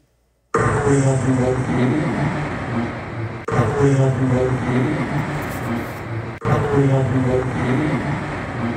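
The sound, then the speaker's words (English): A small Cessna jet flying past with a whiny, high-pitched engine tone much like a small propeller plane, loud, played three times in a row with abrupt cuts between repeats. “Listen for that high-pitched prop sound. Remember, this is a jet. It's not a prop as it goes by.”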